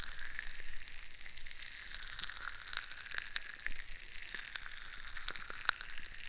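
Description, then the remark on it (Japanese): A steady crackling fizz, like tiny bubbles bursting, with scattered sharper pops breaking through at irregular moments. No one speaks; the hiss stays at an even, moderate level throughout. “パチパチってしててさ。”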